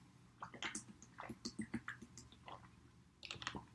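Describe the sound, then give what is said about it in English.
Quiet sipping of lukewarm coffee: a run of small wet slurps, mouth clicks and swallows in an irregular rhythm, with no talking. “Let me get my sip of water, my sip of lukewarm coffee, because I don't have my special coffee mug.”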